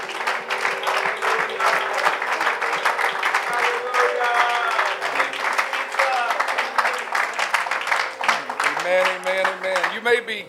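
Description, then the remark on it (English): An audience at a church service claps their hands unto the Lord steadily and loudly for about ten seconds, dense applause filling the space, with sustained musical tones and some voices running underneath. “One more time, would you clap your hands unto the Lord?”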